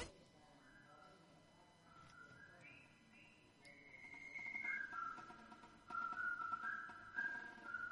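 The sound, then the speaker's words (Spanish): A jaunty military march tune from a film soundtrack, whistled in clear, stepped notes, growing louder and fuller halfway through, carried over a steady, busy instrumental background. “Yo creo que a todos os suena esta música, o este es, yo creo que silbido tan conocido no solo de la historia del cine,”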